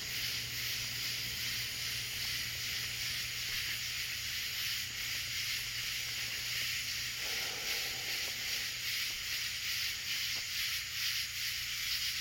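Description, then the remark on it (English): A dense, steady insect chorus of cicadas and crickets fills the night, a continuous high buzzing shimmer with faint pulsing texture and a low hum underneath, no voices. “My mom said these are cicadas. It's a kind of locust. And some birds, crickets, who knows what all kind of insects, but man, they are singing tonight.”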